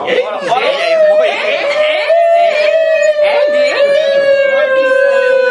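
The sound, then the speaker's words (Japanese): A dog in heat howls in one long, steady, wavering tone with whiny, whimpering glides at the start, fairly loud, while people chuckle and murmur in the background. “犬来る。犬が。犬来る。 発情してるやん。”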